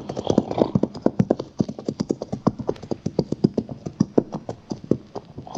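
Horses' hooves clip-clop steadily on hard ground as they head for a watering pond among cottonwood trees, a quick, regular run of sharp knocks, clear, with several animals' steps overlapping and no voices.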